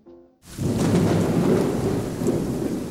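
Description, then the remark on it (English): Heavy rain bursts in after a brief quiet moment, pouring steadily and loudly while a deep rumble of thunder rolls underneath for the rest of the stretch, with no voices, during a play performed in front of hundreds of people and multiple TV cameras. “As thunder rolled and rain poured, a play was performed in front of hundreds of people and multiple TV cameras.”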